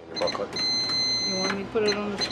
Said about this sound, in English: runs the cash register at the Franconia Village store, just a few miles north on I-93.